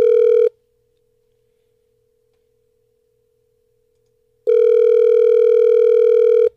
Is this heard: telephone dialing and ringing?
yes